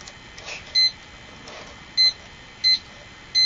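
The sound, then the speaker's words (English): Four short electronic beeps, high-pitched and clear, sound at uneven intervals like buttons being pressed as a timer is set for 3 minutes, with faint background noise between them. “set the timer. We're going to play for 3 minutes”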